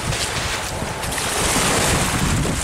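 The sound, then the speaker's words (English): Steady rushing water and wind noise surround a tiny, wobbly boat that has taken off on its own, drifting on the water, a continuous wash with no voices. “The boat just took off on its own.”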